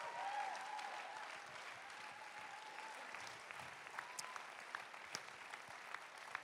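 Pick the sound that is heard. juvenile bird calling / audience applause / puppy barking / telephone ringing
audience applause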